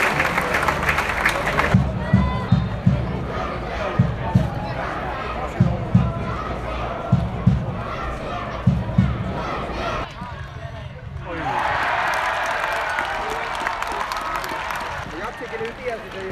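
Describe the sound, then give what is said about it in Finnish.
A large football crowd murmurs with a series of rhythmic low thuds, then breaks into a loud, sustained wave of applause and cheering as the visiting team Musa Salama and home team FC Jats are welcomed onto the field. “Mä kuulin Tatsunas taputuksiin.”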